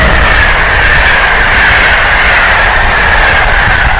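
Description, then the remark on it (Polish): A loud tram rumbles steadily past at a station in Berlin, its wheels grinding with a sustained metallic whine over a heavy low roar for the whole stretch, with no voices. “Właśnie tramwaj przejechał.”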